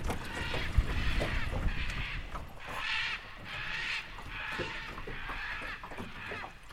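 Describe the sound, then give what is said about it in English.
Loud, harsh squawks from a pair of scarlet macaws flying fast overhead ring out in a steady series of rasping calls, heard from a boat on a river, above a low rumbling background of engine or wind noise. “I jump up, almost lose balance in the boat, and whip my head around just in time to see a pair of scarlet macaws right overhead, belting out a loud squawk.”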